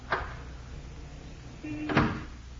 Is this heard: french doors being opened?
yes